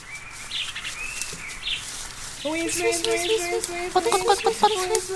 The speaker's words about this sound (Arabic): أما يا أصدقائنا فإن الدجاجة دخلت في بيتها وفجأة صاحت بفراخها الصغار.